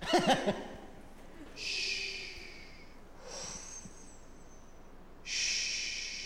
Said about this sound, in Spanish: Respira, quiero escuchar tu respiración. Exhala. Inhala. Exhala. Inhala, inhala. Inhala, inhala, mucho.